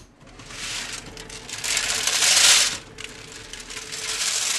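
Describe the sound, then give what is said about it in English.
About 1.7 kilos of cacao beans tumble and rattle inside a heated Ronco rotisserie turkey roaster on a factory floor, being heated. A steady, dense clatter of many small hard pieces that swells louder for a moment midway, with no voices. “So that's the sound of about 1.7 kilos of beans going around in this heated roaster.”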